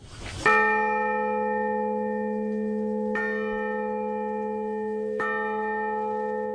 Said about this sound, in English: The relative of an atomic bomb survivor and the grandson of one of the Manhattan Project workers are shown testing the St. Kateri Bell of Hope. It was the final piece of restoration of the Urakami Cathedral. The bell is a copy of the original.